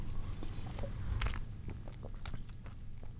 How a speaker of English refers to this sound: But somebody, they're like, you swish that around in your mouth before you swallow it. I didn't even realize. So I would like, and this isn't brown soda, but like I would drink like this.